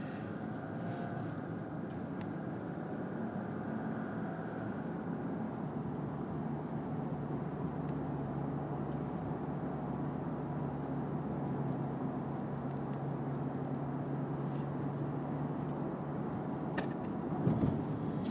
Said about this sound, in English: Oh, traffic is bad this morning.